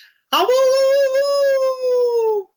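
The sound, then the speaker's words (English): A person imitates a hound dog's howl, one long, loud, sustained wavering note that rises at the start and slowly falls away over about two seconds, heard alone. “Just close us out with your best hound dog howl.”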